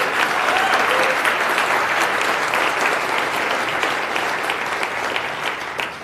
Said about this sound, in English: I think we should give them a round of applause for that.